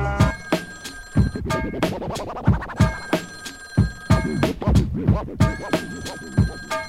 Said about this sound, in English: I lock the front door and I'm finally home. But before I can breathe, there goes the damn telephone.